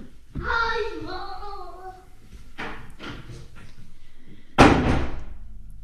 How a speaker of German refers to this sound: Und das war die Tür, genau.